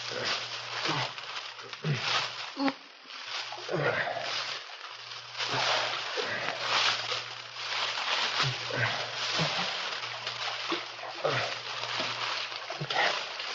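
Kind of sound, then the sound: nature, creek water flowing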